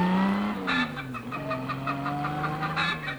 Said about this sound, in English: The combined sound of an automobile and a hen was especially recorded for motoring enthusiasts who keep chickens.